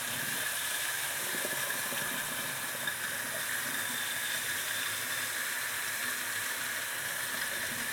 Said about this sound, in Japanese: シャワーの音であんまり聞こえないの。